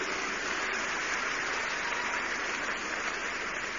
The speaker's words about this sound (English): Yes, if you are clapping, please do it well.